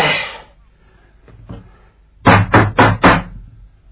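Four loud, heavy knocks land in quick succession on the closed main wooden gate of the East Mansion, forceful, after a brief rustle and a couple of fainter taps.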